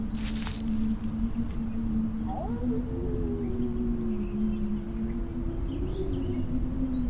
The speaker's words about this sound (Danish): Nogle gange, når jeg lytter godt efter, synes jeg, at jeg kan høre ulvene hyle. Men måske er det bare vinden.